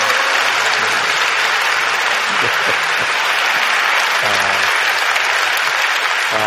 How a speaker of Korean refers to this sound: 네, 우리 오늘 솔리스트로 또 나레이션으로 함께 수고한 많은 분들 우리 큰 박수로 축복하고 격려하면 좋겠습니다.